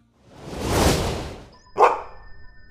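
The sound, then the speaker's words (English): A soft rising whoosh swells and fades, then a single sharp dog bark rings out, fairly loud and pitched in the middle range, followed by a faint high tone lingering. “Are you a space dog?”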